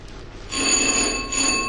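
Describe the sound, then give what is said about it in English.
A bell rung by Brother Moreno starts ringing after a brief quiet moment, a steady, bright metallic ring with shimmering high overtones that holds at an even loudness to the end, with no voices. “Let's go there, because I see Brother Moreno's hands itching, so I think he's about to ring the bell on me.”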